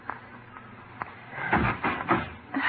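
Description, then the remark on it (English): Urgent, frantic knocking on a bedroom door near daylight, several heavy thuds in quick, uneven succession, fairly loud over a faint background hiss, with no voices. “It was nearly daylight when Dr. Leticia Graham was aroused by a frantic knocking at her bedroom door.”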